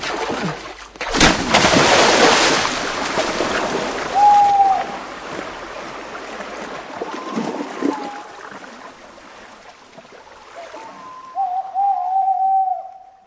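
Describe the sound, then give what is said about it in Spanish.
A single sharp gunshot cracks out and rolls away in a long outdoor echo, followed by quiet water and a few bird calls. “Habrán escuchado el disparo, así que se trata de un asesinato.”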